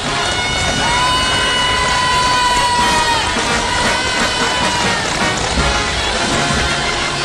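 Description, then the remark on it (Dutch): A dense crowd of spectators gathered in pouring rain on Raadhuisstraat cheers and roars continuously at a steady, loud level as the golden coach passes, with a long whistle-like tone rising above the din for a couple of seconds early on. “De gouden koets komt nu ook in de brede Raadhuisstraat, waar ondanks de stromende regen vele toeschouwers bijeen zijn.”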